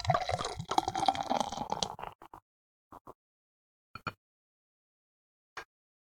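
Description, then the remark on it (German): A drink pours steadily into a glass for about two seconds, fairly loud, followed by a few short, separate drips or light clinks as the pour ends. “Gut, ich schenk's mal ein.”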